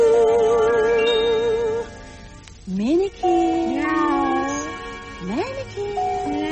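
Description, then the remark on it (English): A sustained, wavering vocal note gives way to a few short rising meows, fairly loud, spaced a couple of seconds apart over a soft musical background. “puss, puss, puss, where are you? Out on a pussycat rendezvous when you ought to be home in bed.”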